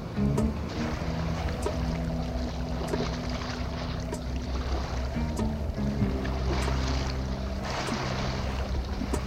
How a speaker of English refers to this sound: Now, Jonathan, I've come to the quayside. It's quiet down here, just a few fishermen. But the sea mist has lifted now, and the name of the ship is now visible.